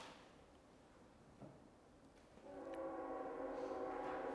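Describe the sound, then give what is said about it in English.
After a couple of seconds of low rumbling background, a loud train horn sounds, holding a steady multi-tone blast through to the end. No one speaks. “let me wait on that train.”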